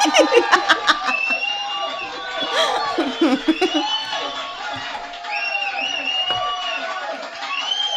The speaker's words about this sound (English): The longest applause.